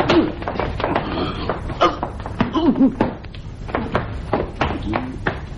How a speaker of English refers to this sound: Now release the bar. That's it. Now pull the door open.